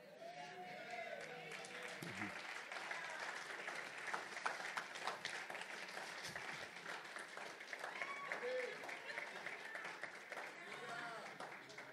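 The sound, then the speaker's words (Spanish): Sustained hand clapping from a crowd, dense and steady throughout, with voices rising and shouting over the applause. “Ay, no, ojalá que aquí no, que están aplaudiendo y volteas. Tres veces más voy a aplaudir.”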